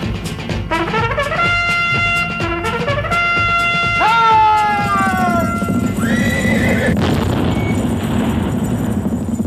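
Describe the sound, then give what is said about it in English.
A horse whinnies loudly with shaky, descending cries over steady clip-clopping hooves, prominent throughout, while a second neigh rises near the end against a rumbling background. “I forgot my horse.”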